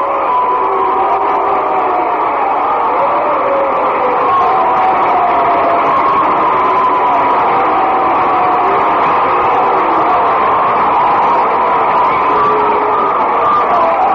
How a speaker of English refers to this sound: Fans are booing him for having made the error and having been picked off second, and others, of course, properly applauding him. Kid's done a good job for the Red Sox.